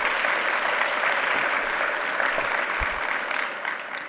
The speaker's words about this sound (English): if you please give her a great round of applause, I'd appreciate it.